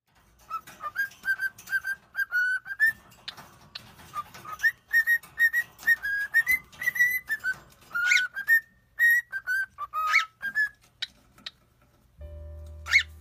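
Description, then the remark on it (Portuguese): A female pet bird whistles a melodic tune that her owner taught her by whistling, a steady run of clear, sustained notes with little breaks between phrases, punctuated by a few sharp clicks, ending in a brief low hum. “Olha aqui, amor. Ela tá cantando.”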